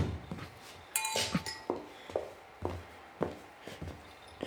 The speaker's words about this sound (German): In der Vitrine sind Sektgläser. Du kannst schon mal zwei rausnehmen.